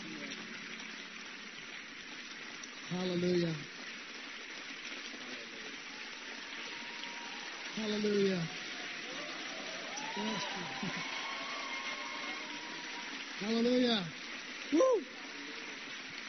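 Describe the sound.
A crowd claps steadily throughout, a dense wash of applause, while individual voices shout out and cheer over it in short, loud bursts.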